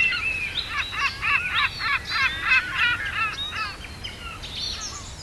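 Seagulls by the sea cackle and scream in a rapid, continuous series of harsh calls, fairly loud, with several birds overlapping and a low background rumble underneath.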